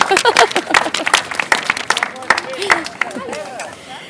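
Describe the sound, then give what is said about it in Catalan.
An audience at a torch march event in Sitges, Catalonia applauds, many hands clapping in a dense, irregular patter with scattered voices and shouts mixed in, the clapping thinning out and fading toward the end. “No podeu aplaudir, però... Sí, si voleu, podeu romper, tant.”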